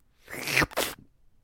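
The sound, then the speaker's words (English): A voice imitates canned cranberry sauce jiggling and sliding out of its opened, shaken can: a breathy, rising squelch followed by a short hissing gush, loud and alone, with no talking. “And really the favorite part of the canned cranberry, you know this, you open the can and you shake it a little bit and it starts jiggling and it starts coming out of the can and it makes that sound.”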